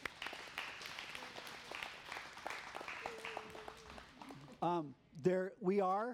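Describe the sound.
An audience claps in a steady, dense patter for about four seconds, then the applause stops and a single voice starts talking.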